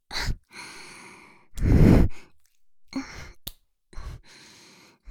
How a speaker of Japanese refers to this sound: 耳元での息遣い、エロい？